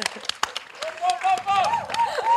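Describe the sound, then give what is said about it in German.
A burst of audience clapping at a live music debate show in Erfurt, Thuringia, Germany, scattered, with voices whooping and calling out over it as the applause carries on. “Applaus. Danke, danke.”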